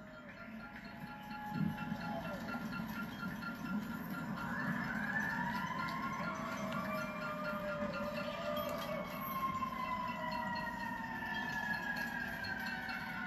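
A wailing emergency siren rises and falls in long sweeping tones over steady city traffic rumble, with no voices.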